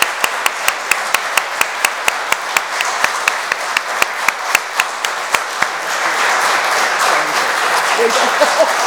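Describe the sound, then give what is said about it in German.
An audience at a church service applauds someone's 20 years of service, first with steady, rhythmic clapping that keeps a regular beat, then swelling into a dense, continuous wash of applause for the last few seconds. “Und ich denke, das ist mal einen großen Applaus wert, dass einer hier 20 Jahre...”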